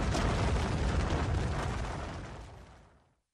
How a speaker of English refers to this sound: The Crushing Rock is the title of this.